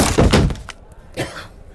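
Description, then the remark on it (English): A wooden chair breaks under a person sitting on it with a loud crunching crack and a cluster of splintering knocks, then a second, softer clatter a moment later as pieces settle. “My chair broke.”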